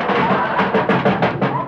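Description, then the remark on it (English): A dense burst of metallic clattering and banging as a car door is hurriedly fitted back onto a car, with quick repeated knocks over a steady rattling noise, loud. “put that door back on.”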